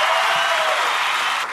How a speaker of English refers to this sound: Round of applause for Reed Parker.